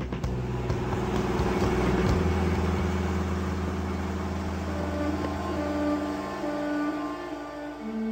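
A car engine runs steadily at idle, a low, even rumble with a faint mechanical hum that holds at a constant level, with no talking.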